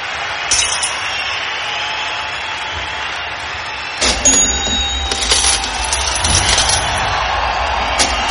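Clinking coins and a cash register: loud, bright metallic jingles and several sharp ringing clinks over a steady rattling background, busier in the second half.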